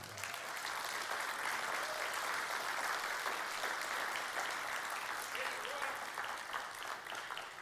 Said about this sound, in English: But for 30 years, he's loved this church, and I wish you'd honor him with some applause for him.